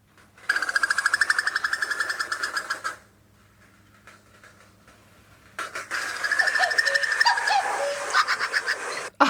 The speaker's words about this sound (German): Der Ruf des Kuckuckweibchens.